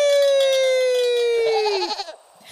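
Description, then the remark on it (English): A single long, loud goat bleat at a goat yoga session, held steady and sliding slightly lower in pitch before breaking into a wavering, quavering finish. Nobody speaks over it. “Have you ever ridden a goat? They're so much stronger than they look.”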